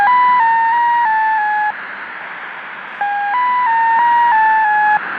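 Shortwave radio reception inside an apartment block, heavy with hiss and static, carrying a sequence of stepped electronic tones in two bursts separated by a short pause of plain noise.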